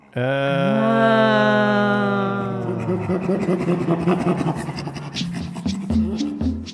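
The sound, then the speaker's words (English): Two chimpanzees, Kendall and Tammy, bent over in a huddle tickling each other, make loud panting laughter: a long tonal vocal sound gives way to rapid, breathy, rhythmic panting bursts that continue to the end. “This odd, like, panting laughter is, like, their way of just saying, like, oh, my God, this is fun.”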